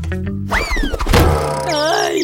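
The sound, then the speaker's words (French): A single dull thunk of someone bumping into a chair while hurrying to fetch a suitcase, quick and fairly loud, framed by sliding, wavering tones before and after the impact. “Aïe, je vis mal. J'avais pas vu la chaise.”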